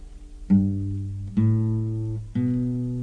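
A home songwriting demo opens with three sustained keyboard chords struck about a second apart, each ringing out loud and close before the next, with no singing yet.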